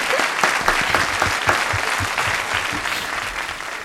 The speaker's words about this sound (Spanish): Os voy a dar un aplauso a todos también. Bienvenidos.